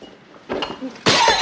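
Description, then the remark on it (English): A vase smashes over a man's head with a sudden, loud crash that bursts into bright shattering and lingers as the pieces break apart, preceded by a brief stretch of softer scuffling sounds. “Smashes a vase on his head.”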